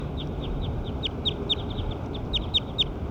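bird vocalizing

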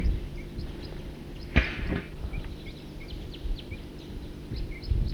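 bird alarm call

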